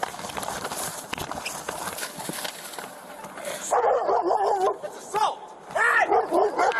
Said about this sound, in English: Is that your dog? You're not asking the right question. Is that your dog?